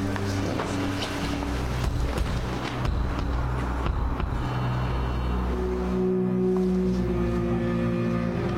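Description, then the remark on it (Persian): A car engine, just started by the speaker, idles steadily: a low, continuous rumble with a droning hum that holds at an even loudness throughout, with no voices over it. “من ماشین از بر روشن میکنم.”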